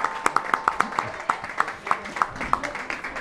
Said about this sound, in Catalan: Un aplaudiment. Un aplaudiment al nostre oracle. Pou de saviesa.